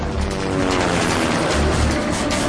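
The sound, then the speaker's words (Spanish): Two helicopters roar overhead, pursuing a jeep driving cross-country, in a dense, steady wash of engine and rotor noise, with a low thumping rumble underneath and no voices. “rodea el helicóptero para esquivar las balas y conduce campo a través con ambos helicópteros pisándole los talones.”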